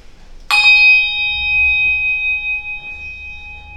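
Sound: bell ringing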